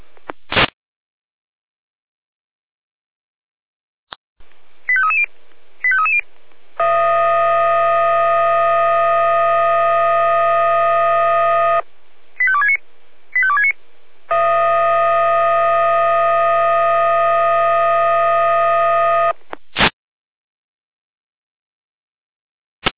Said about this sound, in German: Achtung, Achtung, hier die Leitstelle Jena mit Einsatzalarm für die Florian Bucher, Florian Schorper und Florian Osmaritz.